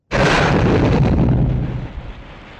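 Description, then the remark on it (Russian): A single powerful explosion of a bomb dropped from a helicopter erupts with a sudden loud blast, followed by a rumbling roar that slowly fades over a couple of seconds. No voices. “Из кабины высунулась рука, и вниз полетел черный шарик.”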